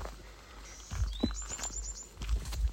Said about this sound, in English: And there are birds talking to each other right now.